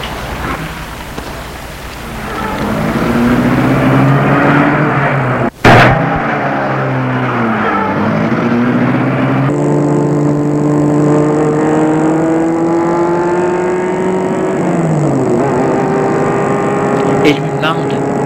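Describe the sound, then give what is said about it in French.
A car engine is started and runs, revving and climbing in pitch through several gear changes as the car pulls away, with a sharp click partway through. “Et met la voiture en route.”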